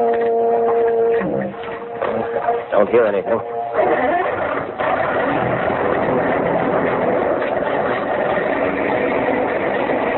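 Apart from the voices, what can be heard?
foghorn blowing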